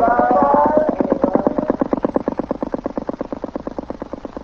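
A boat's motor chugs in a rapid, steady rhythm, fairly loud at first, with a brief higher whine at the start, then gradually softening as Mission Tuan's boat moves off downriver against the sun.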